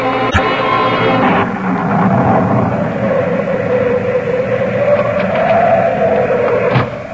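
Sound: thunderstorm thunder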